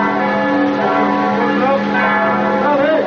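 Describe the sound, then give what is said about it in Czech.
Bells of the Church of Saint Simeon the Myrrh-Streaming ring continuously as Putin's vehicle approaches for the welcome in front of the Palace of Serbia, their overlapping tones forming a dense, sustained clangor at steady loudness, with a faint murmur of voices mixed underneath. “Zvona sa crkve Svetog Simeona Mirotočivog oglasila su se dok je Putinovo vozilo prilazilo, a sve vreme su zvonile i dok su intonirane himne dve države.”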